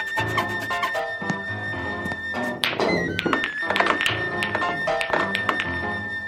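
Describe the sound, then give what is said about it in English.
A pool cue strikes and billiard balls break apart during a game of straight pool in a rapid clatter of sharp clacks and knocks, fairly loud, with steady music playing underneath. “One shot and I run the whole table.”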